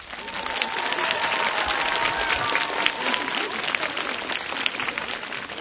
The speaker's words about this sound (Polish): Jesteśmy na Jasnej Górze, u Matki Bożej Królowej Polski. Są z nami słuchacze Radia Maryja, widzowie telewizji Trwam, których na początku naszego spotkania pozdrawiamy gorącymi, rzęsistymi oklaskami.